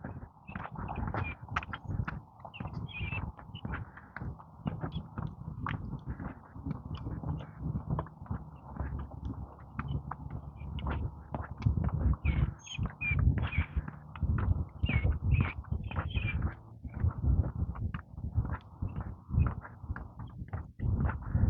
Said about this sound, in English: I'm listening to the birds chirp.